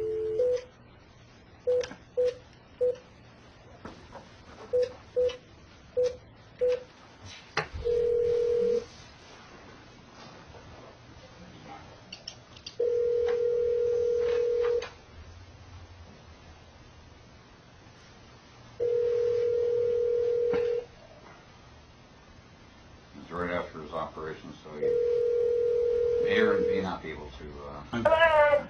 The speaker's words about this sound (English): All right. Let's go ahead and get him on the phone.